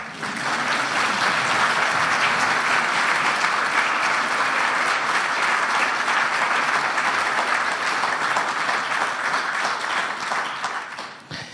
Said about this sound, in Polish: Oklaski.